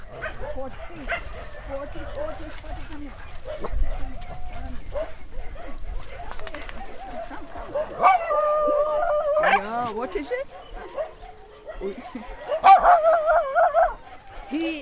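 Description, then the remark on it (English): A nervous adult dog whines and whimpers in high, wavering cries, with occasional short barks, fairly loud, especially toward the end, while a person speaks briefly in the background. “He was dumped as an adult, and then he's very nervous.”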